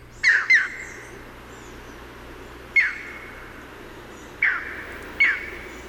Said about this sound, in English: And the call of the green heron is a loud, emphatic, "Ear!" And it's often given when the bird is flush from the water's edge. Let's listen to the call of the green heron here.